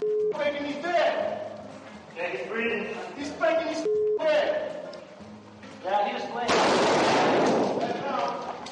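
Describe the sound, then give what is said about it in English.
Gunfire from NBC combat video in Iraq as a U.S. Marine shoots a wounded insurgent: a loud, harsh burst of shots erupts near the end, following several seconds of raised, indistinct voices and shouting. “A U.S. Marine shoots a wounded insurgent in Iraq.”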